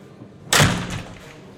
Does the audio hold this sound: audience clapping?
no